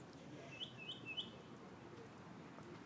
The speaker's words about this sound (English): What a birdie bird sound. My birdies.